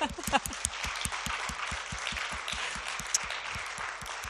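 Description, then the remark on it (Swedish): A large audience at a church service claps together in sustained, resounding applause, a dense steady wash of hands lasting several seconds with a faint rhythmic thump underneath. “Och jag tycker att vi faktiskt kan ge varandra en riktigt rungande applåd.”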